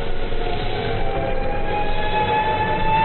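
A steady, drawn-out air raid siren wails over a continuous rumble of street traffic near Nelson's Column, with no one speaking.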